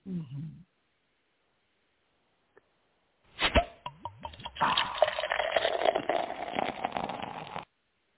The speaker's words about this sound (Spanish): Perdón, me ahogué. Déjame tomar un sorbito aquí de agua.